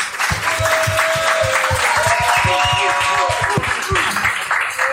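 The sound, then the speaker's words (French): Steady applause from an audience welcoming a guest at Social Base Camp, dense overlapping claps at a loud, sustained level, with faint voices and cheers mixed in beneath. “Je vous propose qu'on commence avec, mesdames et messieurs, petit tonnerre d'applaudissements, s'il vous plaît, pour Thomas Letter.”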